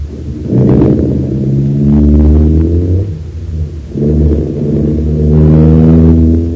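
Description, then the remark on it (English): A man who has just come out of his house and got into his car starts it: the engine turns over and revs loudly, its pitch climbing, then after a brief dip it accelerates again as the car pulls away. No voices. “Oh, I say, he's getting into his car. I wonder what he's up to now. There he goes, sir.”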